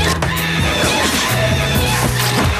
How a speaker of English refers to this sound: they've tortured someone, recorded their scream, and put it on this music. And I don't for the life of me know why. Have a listen. So it starts off perfectly nice. There's the bloke falling on the ice, and here comes the scream. Here it comes again.